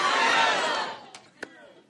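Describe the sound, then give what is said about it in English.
A crowd at Resonance yells a single word all at once after a count of three, telling how they are doing, a loud mass of overlapping voices that fades over about a second, followed by a couple of faint, sharp sounds. “So I'm gonna count to three, say how you're doing, you just yell that word out, all right?”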